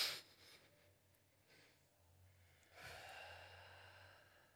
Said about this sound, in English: But I mean enriching your life by being so presently focused, yeah. Like breathing.